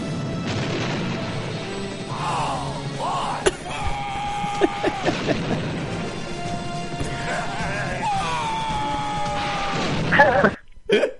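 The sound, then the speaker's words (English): Stallone lets out three loud, drawn-out yells from a helicopter in a film clip, spaced a few seconds apart, over a dense, constant roar of background noise, with a sharp crash near the end. “It's just like three great Stallone yells from the helicopter.”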